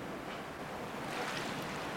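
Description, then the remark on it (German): Sea water surges and washes steadily around rocks below the Walter Benjamin memorial by the cemetery, a broad continuous wash of surf with a soft rushing swell and a light breath of wind, no voices. “Meer kreist unten um die Felsen.”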